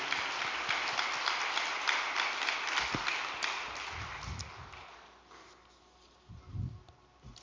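A crowd claps steadily in a dense, crackling patter that holds for several seconds, then thins out and fades, leaving a few soft low thumps.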